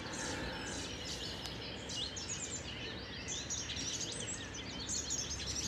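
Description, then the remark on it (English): Many birds chirp and sing continuously outdoors, their quick overlapping high tweets layered over a steady rushing background of ambient noise, with no voices present. “The little touch points. The butterflies. The birds.”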